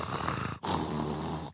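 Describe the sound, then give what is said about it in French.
Bernard Werber imitates a cat purring, making a raspy throat rumble in two long bursts with a brief pause between them, sounding somewhat like snoring. “Et faites un ronronnement, Bernard Werber.”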